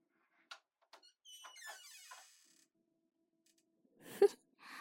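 Two sharp latch clicks, then a drawn-out squeaky hinge creak as a door swings open, followed by quiet and a short breathy exhale near the end.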